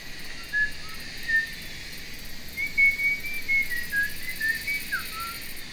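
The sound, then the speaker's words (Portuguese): A person whistles a light, wandering tune in short melodic phrases, imitating a cicada's singing, over a steady high hiss like insect buzz, with no talking. “Em um dia de verão, a cigarra cantava feliz e tranquila sobre a sombra de grandes e verdes árvores.”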